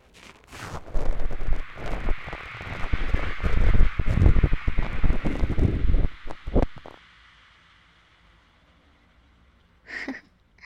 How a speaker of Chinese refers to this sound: 哈，这么脆弱的地方，让双氧水在伤口上如此反应，你也算是个有勇气的人了。